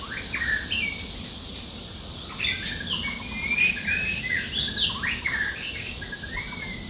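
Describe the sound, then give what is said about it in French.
A barbet with a green-tipped head and black beak calls outdoors in the countryside of Saigon, its short bright chirps repeating irregularly and overlapping other bird notes, all over a steady, hissing background of ambient noise. “Moi, j'ai vu un oiseau qui s'appelle Barbilipita dans la campagne de Saigon. Le bout de sa tête est vert, son bec est noir.”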